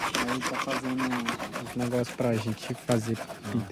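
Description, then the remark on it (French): A village chief's machete scrapes and shaves small wooden sticks, which will be used for making paintings, in quick, repeated rasping strokes, a steady run of dry, gritty scrapes with a faint tonal ring, heard alone without talk. “Ah oui, et là-bas, il y a le chef du village qui est avec sa machette et qui est en train de préparer des petites tiges de bois qui vont servir à faire les peintures.”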